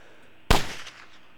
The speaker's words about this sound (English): That sounds like shots, like gunshots, don't it?